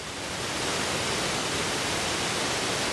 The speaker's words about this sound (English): The river really gets its shoulders near Lake Tana. That's where the water heaves in tremendous sheets from Nile Falls, a nearly 100-foot drop.